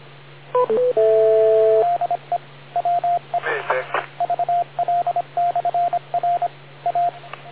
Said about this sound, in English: Wait for the beep and go ahead with your question